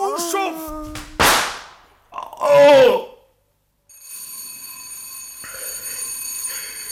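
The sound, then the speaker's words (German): A service bell rings with a bright, sustained metallic tone that lingers steadily, following an earlier sharp crack and a brief wailing vocal sound. “Ja, Sie haben geläutet, Sir.”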